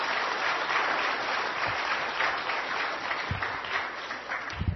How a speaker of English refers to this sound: Yeah, very appropriate. Very appropriate for you to applaud.